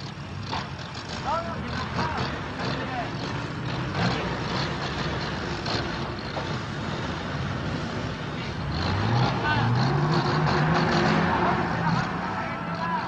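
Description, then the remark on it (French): Heavy engines of French army aircraft, helicopters, trucks and armoured vehicles during Operation Jumelle in Kabylie rumble steadily with a dense mechanical roar; partway through, one engine revs up, its pitch climbing and growing louder. “Rien ne manque, ni les avions, ni les hélicoptères, ni les camions, ni les blindés.”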